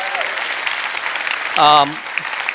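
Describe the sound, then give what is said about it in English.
A church audience applauds their pastor with steady, dense clapping throughout, and a single voice lets out a brief cheer partway through. “Would you give this man a round of applause?”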